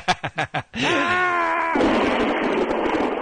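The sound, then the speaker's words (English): A voice imitates thunder and lightning while pretending to hold Mjolnir, Thor's hammer, above the head: five quick rhythmic bursts, then a strained, wavering groan that breaks into a loud, rough hissing rumble, sustained to the end. “No, it's my lightning and thunder.”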